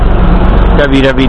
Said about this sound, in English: I'm about to get on my bus.